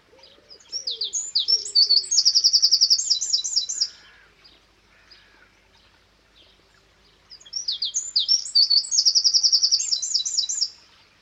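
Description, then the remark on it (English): A wren sings two loud, rapid bursts of high, trilling notes, each lasting about three seconds with a pause between, and softer cooing birds call faintly in the background. “There are a number of subspecies of wren, including the Fair Isle wren and the St Kilda wren.”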